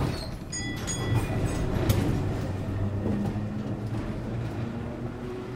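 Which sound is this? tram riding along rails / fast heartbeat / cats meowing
tram riding along rails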